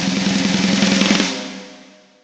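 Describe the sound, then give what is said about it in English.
A fast, steady drum roll of rapid strikes at full volume for about a second, then stopping abruptly and leaving a ringing tail that fades away. No one speaks. “And the drum roll.”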